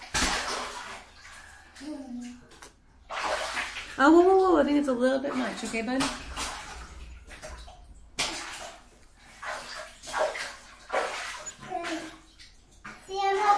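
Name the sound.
water splashing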